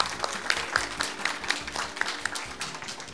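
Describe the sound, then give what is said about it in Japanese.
Steady applause from the audience at a Toyo Kanetsu IR seminar for individual investors, welcoming the company's president: many hands clapping in a dense, continuous patter with a few sharper individual claps standing out. It fills the whole moment at moderate loudness, with no voices. “皆様どうぞ大きな拍手をお願いいたします。”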